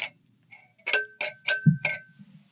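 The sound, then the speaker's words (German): A drinking glass is tapped several times in quick succession, each bright clink leaving a short ringing tone, fairly loud with a soft low knock between strikes; the glass stays intact. “Meinst du, für mich die Bullerei ist böse, wenn ich ein Glas kaputt mache?”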